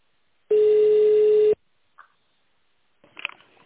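A single loud, steady electronic beep lasting about a second, the answering-machine tone signalling to leave a message about an adverse reaction to a drug, followed by a faint click and a brief burst of soft line noise.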